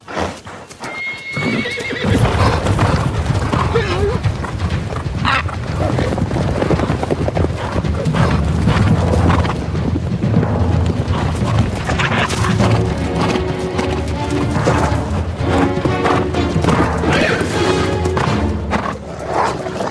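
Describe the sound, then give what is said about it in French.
Wild horses gallop hard in a dense, continuous rush of hoofbeats as wolves chase them, with loud whinnies and neighs breaking through. A few thuds and crashes punctuate the busy stampede throughout. “Alors, morceau de bravoure, les chevaux et les loups.”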